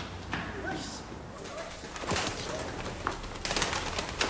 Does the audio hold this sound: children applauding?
no